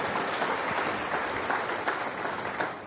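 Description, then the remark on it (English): A church audience, pastors and ministers among them, applauding themselves together, a dense, steady wash of many hands clapping at once, sustained throughout and fairly loud, with no voices standing out. “You are the most important here. Clap for yourselves.”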